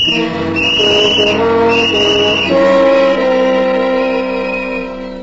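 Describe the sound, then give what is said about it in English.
A child blows a whistle loudly in long, sustained blasts with a shrill, reedy tone, briefly dipping around the middle before settling into a steadier pitch. No one speaks. “Don't you know better than to blow that thing that way?”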